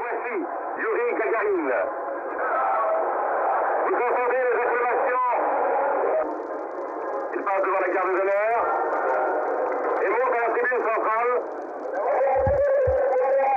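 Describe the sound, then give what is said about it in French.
A crowd in Moscow chants Gagarin's name in repeated rhythmic bursts at the announcement of his return, loud and steady, heard through a thin, tinny old Europe 1 radio broadcast with a constant hiss underneath. “On entend ce nom scandé par la foule à Moscou, donc, où Gagarin arrive le lendemain.”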